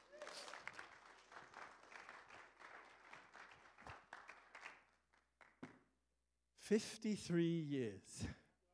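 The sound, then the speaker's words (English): A room full of people applauds a couple married 53 years, with steady, dense clapping for about five seconds. Then it thins out and a voice starts talking loudly. “Can we give them a hand clap?”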